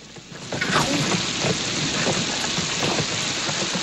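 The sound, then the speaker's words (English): Heavy rain pours down in a dense, steady hiss, with scattered louder splashes and patters breaking through the constant roar, falling as a deluge on a trail of rock and mud. No voices are heard. “sets her case down and sighs as she watches her newly appointed guide march on ahead through the deluge.”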